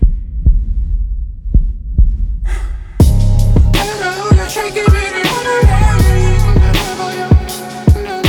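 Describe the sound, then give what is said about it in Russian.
A steady heartbeat thumps alone at a calm, even pace for a few seconds, then full music swells in, with the low pulses continuing underneath. “Голосовые сообщения пусты, а я записывал тебе сердцебиение.”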